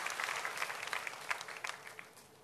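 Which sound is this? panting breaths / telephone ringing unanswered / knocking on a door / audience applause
audience applause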